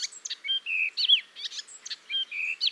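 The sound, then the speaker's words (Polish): Sparrows chirping in quick, busy bursts, with short tweets and brief whistled notes tumbling over each other, lively, with no voices. “Powstaje nam wróble ćwierkanie.”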